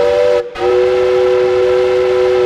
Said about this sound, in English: A steam whistle blows to signal the end of the workday.